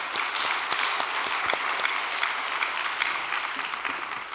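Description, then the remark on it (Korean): Sustained applause of thanks from a large audience, dense clapping filling the whole stretch at a steady, fairly loud level before easing off slightly at the end. “우리 감사의 박수 올려드리겠습니다.”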